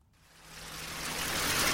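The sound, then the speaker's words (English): Water rushes and sloshes steadily inside a whisky mash tun during mashing, at the third water stage, a dense hissing wash that swells louder over the moment, with a faint low mechanical hum underneath and no voices. “Yeah, that's the mashing you're hearing in the background, and the stage we're at the moment is the third water.”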